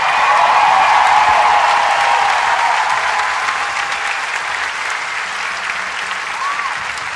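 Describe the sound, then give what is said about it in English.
Loud, sustained audience applause for the Sydney Symphony Orchestra, a dense wash of many hands clapping that fades slightly in the second half, with faint whistles and cheers mixed in. “Give one more big applause for Sydney Symphony Orchestra.”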